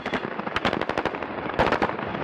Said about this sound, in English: The footage is grainy and a little shaky, but it clearly shows an army vehicle coming to a stop near a pickup truck. And then the soldiers inside begin to open fire.